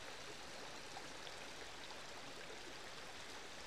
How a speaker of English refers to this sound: As it babbles over the rocks, the water's glinting in the sunshine, which is producing this beautiful backdrop to the daffodils.